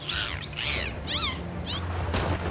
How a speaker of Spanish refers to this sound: ¿Qué pasa? ¿Acaso nos atacan los piratas? No, mi capitana, son ballenas jorobadas.